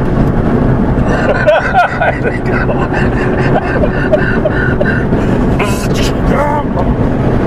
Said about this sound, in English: Truck shuts down.